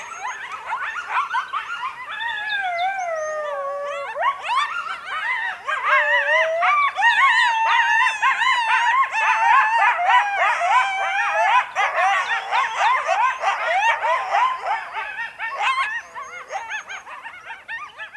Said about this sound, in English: And when there are two coyotes communicating, sort of like, hey, I'm over here. Hey, I'm over there. This is my territory. This is my territory.